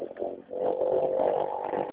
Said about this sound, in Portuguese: Não tô ouvindo, passou uma moto pro inferno.